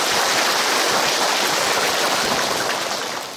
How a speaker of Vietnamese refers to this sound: 10 điểm cho một tràng vỗ tay nữa.